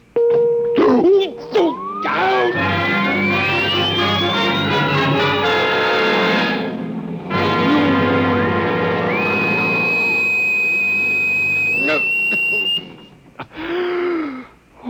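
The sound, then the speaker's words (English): A loud, harsh electronic buzzing drone from a vibration device set to vibration level 2, with a whining tone that glides upward, holds steady, then jumps higher before cutting off abruptly, followed by a short strained vocal groan. “So go ahead. Vibrate. Vibration level 2. It will be very painful”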